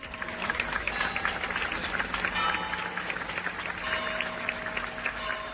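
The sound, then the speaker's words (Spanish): Sustained applause from a large crowd, a several-minute ovation for president Guillermo Fernández Vara at his funeral in the Iglesia de la Magdalena in Olivenza. It is a dense, steady wash of clapping that holds at an even, fairly loud level throughout, with a faint murmur of voices underneath. “En un funeral multitudinario, celebrado en la Oliventina Iglesia de la Magdalena, se le ha dedicado una larga ovación de varios minutos.”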